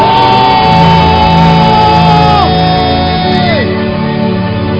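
A church audience at a prayer service shouts and whoops together in a loud, sustained burst in response to the preacher, long drawn-out cries overlapping and then tapering off near the end.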